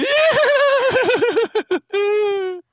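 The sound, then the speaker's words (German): A voice imitates the whinny of Amadeus, the horse from Bibi und Tina: a loud, quavering, rapidly wobbling neigh, then a few short choppy bursts and a final steady drawn-out tone. “Und ich bin Amadeus, das Pferd von Bibi und Tina.”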